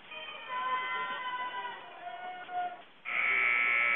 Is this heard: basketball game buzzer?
yes